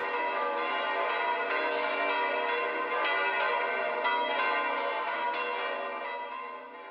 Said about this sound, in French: L'ermite, eh ben, c'est lui, quand le temps était propice, qui faisait, par quel signe, on ne sait pas, sonner les cloches de Rome et on les entendait dans la gorge. Voilà. Les cloches de Rome.